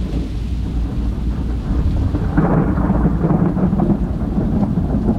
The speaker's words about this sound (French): J'ai dormi dans ce bruit, et puis il a plu. De pluie bien serrée.